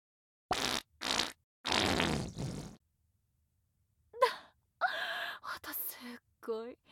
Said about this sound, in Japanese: 女性のお尻に敷かれておならされるって。とっても屈辱的で情けないことなのよ。もうあなたは慣れちゃったのかもしれないけれど、あなた好みのきっついおならたっぷり出してあげるから。